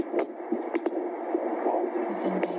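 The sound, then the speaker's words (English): A fetal heartbeat on a Doppler monitor during a prenatal visit with a nurse midwife at St. Joseph's Hospital Women's Health Clinic in Buchanan. A steady whooshing hiss carries faint rhythmic pulses and soft clicks, with no voices. “is using a Doppler to look for a heartbeat during a prenatal visit.”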